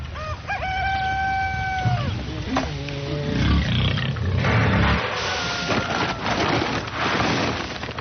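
Pigs, a group of about twenty, squeal loudly as they are being fed by their farmer, with several shrill, drawn-out cries early on, followed by a steady jumble of grunts, snorts and clattering noise.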